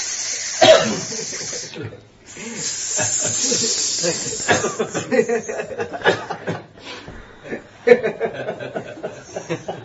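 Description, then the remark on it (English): A voice imitates many venomous snakes hissing, a loud, sustained breathy hiss broken by short voiced bursts and chuckling sounds, continuing almost without pause for about ten seconds. “And tumultuous effect of all the snakes.”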